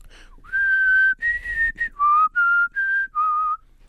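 Someone whistles the Olympic theme tune: a short phrase of about six clear, sustained notes with brief breaks between them, loud and alone with no talking.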